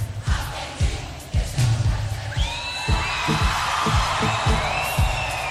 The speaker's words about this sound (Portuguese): Só as meninas, hein? Meninas, atenção. Olha o gritinho, hein? Só as meninas.